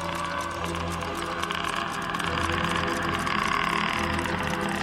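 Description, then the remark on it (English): A steady car engine hums at an even pitch while driving late at night down a dark country road in the south of England, with a constant low drone and road rumble that never rises or fades. No one speaks. “Frank was driving down a dark country road in the south of England.”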